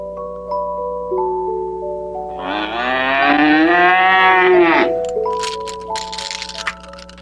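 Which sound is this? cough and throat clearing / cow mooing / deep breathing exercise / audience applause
cow mooing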